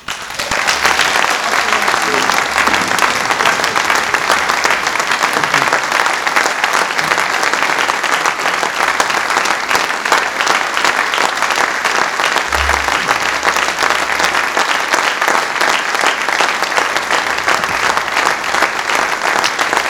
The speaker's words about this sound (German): Ein Applaus.